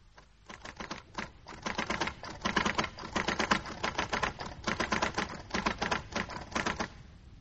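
typing on a typewriter

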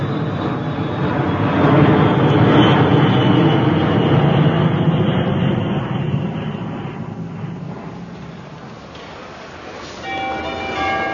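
airplane engine

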